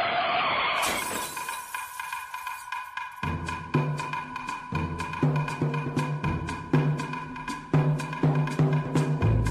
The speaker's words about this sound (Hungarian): egyszerűen beül a kormány mellé, begyújt, és elindul az autóval kísérteties útjára. A sarkon feldönt egy újságos bódét,